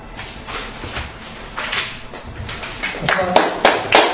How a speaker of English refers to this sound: Applause is not necessarily necessary, but I won't reject it.